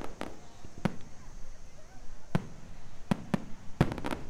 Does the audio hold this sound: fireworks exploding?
yes